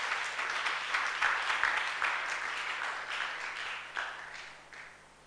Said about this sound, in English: Thank you. Let's clap for him.